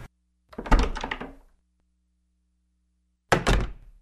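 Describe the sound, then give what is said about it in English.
The door of a bird shop thuds shut with a solid wooden knock, followed after a few seconds of silence by a second heavy thunk. No voices. “Producing a key from his pocket, Herr Hippa opened the door to the bird shop and they slipped silently inside, closing the door behind them.”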